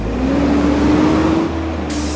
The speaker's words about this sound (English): That is a familiar sound to most of us on trash day, but the sound of city garbage trucks cruising the streets is something people in Albuquerque's North Valley are worried they'll be hearing too much of